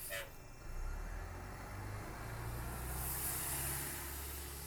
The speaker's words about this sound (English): TTC riders have been hearing the sounds of buses more often over the past few weeks. That's because between February 17th and 23rd, Toronto's public transit welcomed its biggest service increase in years.